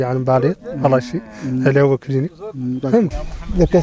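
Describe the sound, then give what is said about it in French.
Several cows moo in close succession as they arrive, loud, their deep drawn-out calls overlapping one another with barely a pause between them. “Ah, les animaux arrivent.”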